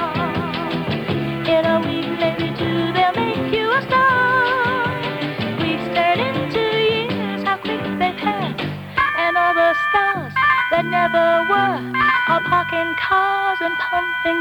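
A recorded pop song plays steadily and fairly loud, with a sung vocal line over full instrumental backing, a brief dip around the midpoint before the music carries on.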